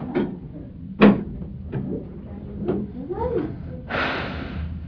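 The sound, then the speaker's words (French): A refrigerator door in a kitchen is handled, with a few soft clunks and rattles, followed by a breathy whoosh of the seal as it swings shut. “Le frigidaire. Oui, le frigidaire.”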